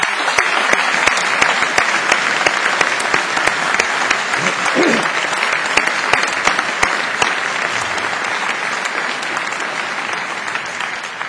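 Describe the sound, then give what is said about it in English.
A large audience at a graduation ceremony claps steadily for several seconds for the graduates, a dense, sustained wash of applause with many hands overlapping, fairly loud and even throughout, with a faint voice briefly audible underneath. “I invite the audience to give these graduates a round of applause.”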